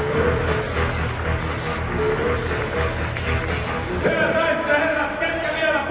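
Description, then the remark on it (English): Go-kart engines of small glass fibre karts, raced by top drivers, with engines the power of a souped-up hairdryer motor, buzz in a steady, continuous drone, with a higher-pitched engine whine rising and holding over the last two seconds, mixed with a faint murmur of voices. “Go-kart racing.”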